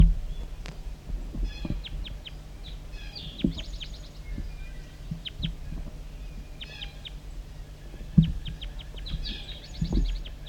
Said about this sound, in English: Sorry, recording the wild bird still around here calling over near the bottom of the hollow.